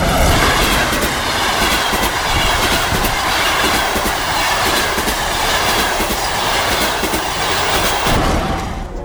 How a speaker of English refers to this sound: I bought a ticket and caught the first train out of town.